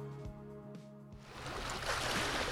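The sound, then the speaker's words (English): Water laps and splashes gently along the shore of a Lake Superior bay, a steady wash of sound growing fuller after a low steady hum at the start; no one speaks. “As water laps along a Lake Superior bay,”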